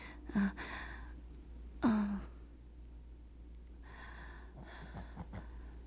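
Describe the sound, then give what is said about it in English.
A puppy snores softly, with a couple of louder snorting inhales followed by quieter, breathy wheezing breaths. “Did you hear my puppy snoring?”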